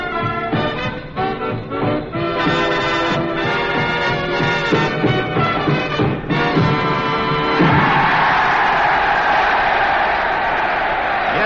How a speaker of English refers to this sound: Cheers and applause belong to tonight's audience, the officers and officer candidates and college staff of the Army Specialized Training Unit at the University of Maine.